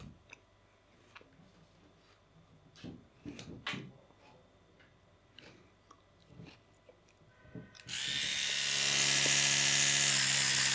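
An electric toothbrush switches on and buzzes steadily and loudly for a few seconds, after a stretch of small clicks and taps as it is handled.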